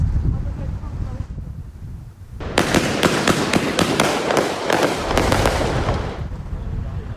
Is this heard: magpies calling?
no